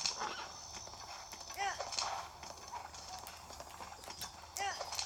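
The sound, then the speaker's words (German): Horse hooves clip-clop in a steady walking rhythm throughout as a horse is ridden toward Maronus, moderately loud, with a few brief high chirping calls rising over the hoofbeats. “Ich reite gerade zu Maronus, deswegen.”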